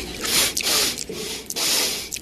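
Repeated loud sniffs by Donald Trump during a debate, looped into a steady rhythm of about four sharp nasal inhales, airy with brief gaps between them, no talking.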